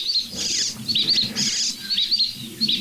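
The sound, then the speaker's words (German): Jackdaw calls: short, sharp, high-pitched chack-like bursts repeating roughly every half second, fairly loud over a low, steady rumble, with no talking. “Aber jetzt, dieses so viel, ein Vogel, der macht den Amsel nach. Und da eine Dohle.”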